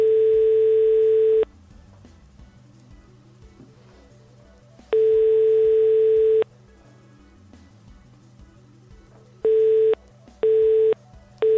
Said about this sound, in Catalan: El senyor Simon Campos no ens agafa el telèfon.